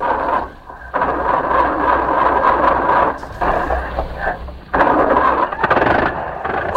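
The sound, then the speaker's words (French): An old petrol car engine is hand-cranked and then clatters and roars in uneven bursts, a loud rough mechanical rattle with brief dips before surging again, with no voices. “Il n'y a plus qu'à tourner la manivelle.”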